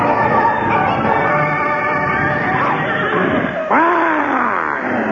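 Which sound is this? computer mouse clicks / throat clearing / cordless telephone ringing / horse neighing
horse neighing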